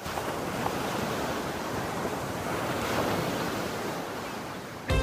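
A steady, full roar of ocean surf washing onto the shore, swelling gently in the middle with no voices, fairly loud throughout.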